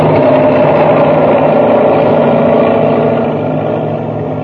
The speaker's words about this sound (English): And now, as Buzz tries to pull Happy free, the enormous driller roars down upon them.